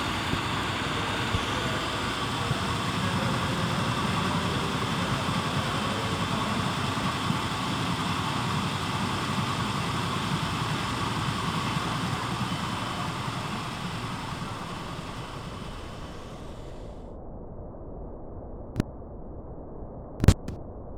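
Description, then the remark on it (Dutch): Machinery at a pumping station that normally runs by itself, unattended, runs with a loud, steady mechanical roar and hum, then the sound dulls and thins near the end, broken by a couple of sharp clicks. “Normaal gesproken is hier niemand. Het gemaal redt zichzelf.”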